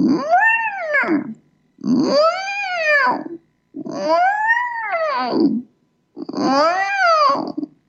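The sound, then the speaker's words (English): A voice imitates whale song with four long, loud, moaning calls that swoop up and back down in pitch, each lasting over a second and separated by short pauses. “Or the whale sounds. I really like the whale sounds.”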